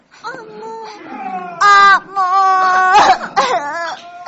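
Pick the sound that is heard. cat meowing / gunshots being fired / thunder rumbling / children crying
children crying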